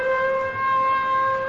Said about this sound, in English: Glancing at the time, I see there are only 10 seconds before the alert siren will go on. There goes the alert siren.